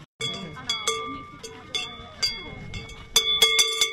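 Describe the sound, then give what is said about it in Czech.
A metal bell of the klibna, a mare figure in a traditional Shrovetide (masopust) procession at Veselý Kopec, clanks repeatedly in an uneven, jostling rhythm, its bright ringing tones sustaining and overlapping, growing busier and louder toward the end, with faint murmuring voices underneath. “Zvonec, který jste slyšeli v tradičních masopustních obchůzkách na Veselém kopci, patřil takzvané klibně, tedy kobyle, které je souzeno na konci masopustu zemřít.”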